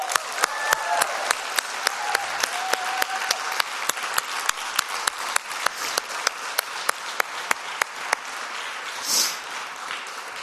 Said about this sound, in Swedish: Alla ni som är under 45, ger alla som är över 45 en stor rungande applåd.